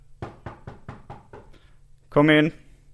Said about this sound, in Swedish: Okej, men då knackar jag på nu då.